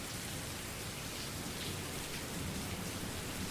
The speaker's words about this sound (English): I invite you to quiet your mind to the quiet of nature, the peaceful clapping of raindrops, or the fragrance of the outdoors being stirred by weather.